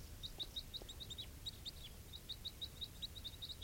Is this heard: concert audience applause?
no